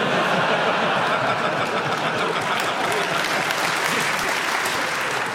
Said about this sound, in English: Audience, you can clap if you like. If they're getting warm. Or if you're getting cold.